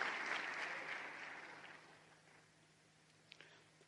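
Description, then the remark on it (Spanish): A church audience applauds the Lord in a dense, crackling burst that is loudest at first, then gradually thins and fades, leaving a few scattered claps near the end. “Vamos a dar un aplauso al Señor, amén.”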